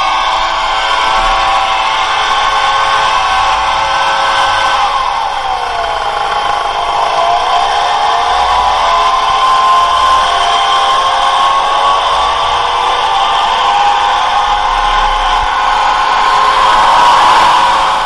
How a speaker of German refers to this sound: Nicht nur für viele Menschen sind die Laubbläser unangenehm, gerade auch für Tiere, die eben auf Rasenflächen leben, sind diese Laubbläser eine lebensgefährliche Gefahr.